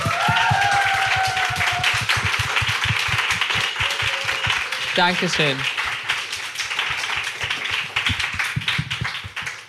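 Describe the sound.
A small group claps steadily for the whole stretch, a dense patter of sharp hand claps at an even loudness. A voice briefly speaks over the applause partway through.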